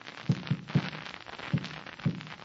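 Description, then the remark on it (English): Dull, low knocks tapped against a wall spell out an SOS signal in Morse code, about five muffled thuds in an uneven rhythm over a steady background hiss, with no voices. “That was the signal SOS.”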